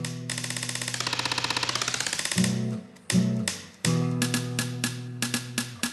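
Rapid, evenly spaced raps on a guitar body clatter like a typewriter over a held, wavering musical tone, then give way to sparser sharp knocks between sustained chords. No voices.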